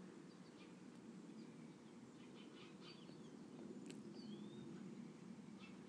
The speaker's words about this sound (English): It's just incredible how many birds are out. It's a little bit of an overcast day, but very pleasant.